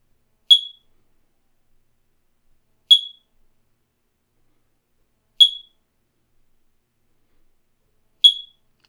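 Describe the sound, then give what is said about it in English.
A smoke detector mounted high on a wall, about 15 feet up where the sides of the ceiling converge, chirps four times: short high-pitched beeps spaced evenly about two and a half seconds apart, with silence between and no one talking. “It beeped high up in the wall, 15 feet up, where the sides of the ceiling converged, like an unsatisfied god at the top of an altar.”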